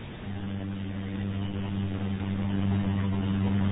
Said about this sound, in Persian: این موتوری چیه اقدر مزاحمونه؟ کار به صدا نداره؟ صداش مونکه ستو تلویزیون، صدای موتور بسیار.